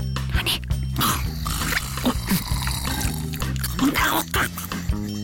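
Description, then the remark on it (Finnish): Water from a glass on a table in a town hall being drunk, with wet sipping and swallowing sounds repeating over a few seconds, set against steady background music. “Tuossa on yhä pöytä ja vesi. No nyt mä juon sitten veden.”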